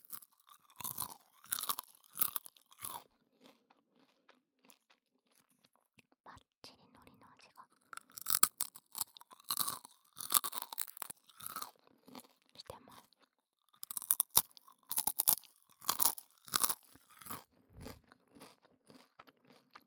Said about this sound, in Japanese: そんなわけで、低カロリーのおせんべいを食べていきたいと思います。音はね、おせんべいと言いつつちょっと音が結構違うかも。ちょっと割れてた。